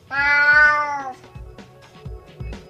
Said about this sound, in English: Get out of here, you cheeky cat. Bye. Bye.